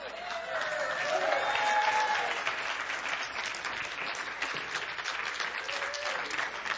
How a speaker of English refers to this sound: I'm glad you finally applauded for my message.